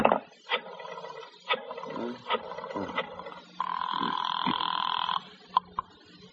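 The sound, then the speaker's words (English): An old-fashioned telephone at Cairo Theatrical in Cairo rings with one sustained, buzzing burst of about a second and a half, preceded by several short, clattering knocks and followed by a couple of brief clicks. “Cairo Theatrical, Mooney Davis on the phone.”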